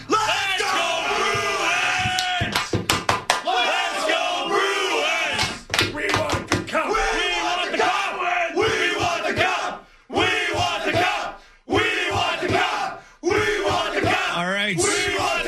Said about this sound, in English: All right, before we let you guys go, can we get one more thunderous cheer?